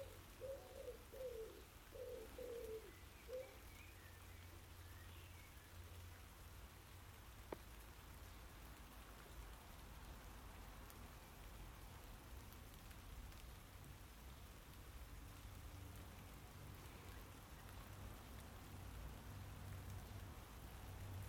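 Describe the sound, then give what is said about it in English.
Steady rain patters down continuously, a soft hiss that fills the whole recording, while a dove coos a few times near the start before the rain carries on alone. “Standing in the rain.”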